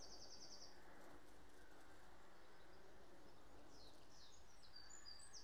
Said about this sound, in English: If creatures that buzz aren't your thing, then you probably wouldn't be standing where I am now, because it is a cacophony of sound. I think I'm going to leave these bumblebees to get on with what they do best